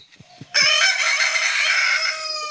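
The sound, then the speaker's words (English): A Salvadoran rooster, recorded in El Salvador and played as a phone alarm, gives a loud crow that rings out steadily for about two seconds, preceded by a few soft low clucks. No one speaks. “That is a Salvadoran rooster.”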